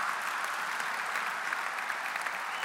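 Sustained audience applause, a dense steady wash of many hands clapping at an even level for the whole stretch, with no voices standing out.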